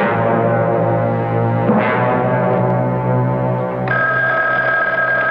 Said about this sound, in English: That telephone never seems to stop ringing. Ever since the boys were in that plane accident, people have been calling to talk.